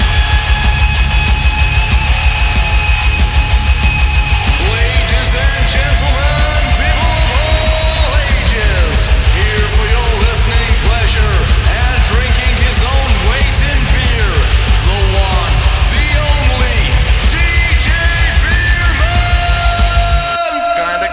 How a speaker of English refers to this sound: I like it. I like the loud music now.